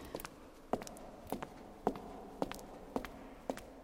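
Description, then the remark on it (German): Footsteps echo as people walk from the sunlight outside into a dark church entrance, about seven sharp, evenly paced heel strikes, each followed by a short reverberant ring, over a low hushed background with no talking. “Vielleicht hört man es auch ein bisschen, der Hall ist auf einmal da.”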